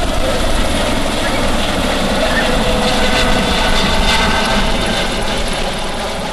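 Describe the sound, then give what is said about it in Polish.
A helicopter flying with passengers aboard, its loud, steady rotor and engine roar filling the scene without a break, slightly easing toward the end. “Jest różnica między samolotem a helikopterem?”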